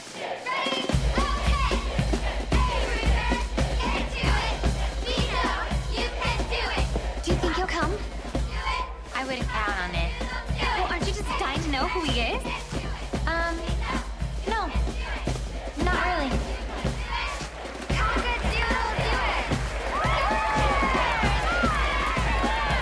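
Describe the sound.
A group cheers and claps together, with sharp, rapid handclaps over excited shouting voices, loud and close, continuing steadily for the whole stretch with a brief dip partway through.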